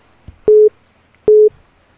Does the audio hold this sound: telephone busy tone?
yes